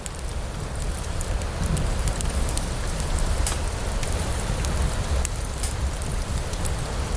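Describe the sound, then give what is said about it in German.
A steady hiss of burning with scattered sharp pops and snaps, a small fire crackling under a kettle in front of a hut, continuing evenly with no voices. “Vor ihr ein Kessel auf einem gemütlich vor sich hin lodernden Feuer.”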